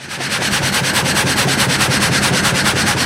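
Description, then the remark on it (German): Loud, steady rasping of a full frame saw (Vollgatter) cutting through wood in a sawmill in Alpach, its reciprocating strokes pulsing in a fast, even rhythm with a low mechanical rumble underneath and no voices. “Es ist mit einer Gattersäge, hast du das Ganze. Ein Vollgatter ist es.”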